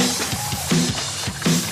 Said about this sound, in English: This is the sound of E. coli splashing around in raw hamburger juice on your cutting board.